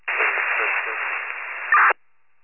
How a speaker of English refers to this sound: Watching your radio static.